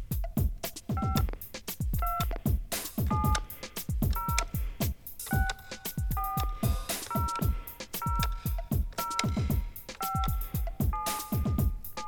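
A steady run of sixteen touch-tone keypad beeps, each a short two-pitched tone, entering a 16-digit card number on the Tire Reward Center card activation phone line, over a thumping rhythmic background.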